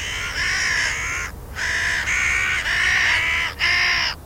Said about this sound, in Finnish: Jo useita kymmeniä vuosia sitten on selvinnyt, että variksen ohjelmisto on samaa luokkaa.